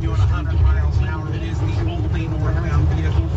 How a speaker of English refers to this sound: A suspect in southern Utah faces nearly two dozen charges for the chase, shootout, and standoff near Beaver on I-15. Here's dash cam video when troopers tried to pull him over.